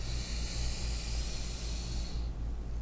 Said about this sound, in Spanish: Mientras tanto, vamos a ir respirando. Vamos a inhalar.